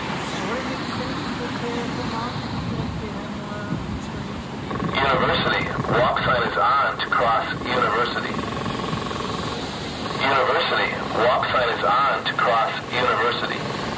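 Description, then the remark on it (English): An audible pedestrian crossing signal for visually impaired pedestrians sounds over steady street traffic, sending out a fast run of repeated electronic chirps in two bursts of several seconds each, clear. “So how common are those audible traffic signals in communities around Wisconsin?”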